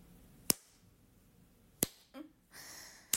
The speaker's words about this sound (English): I'll do some clit slaps. Fuck, I don't know if you can hear them.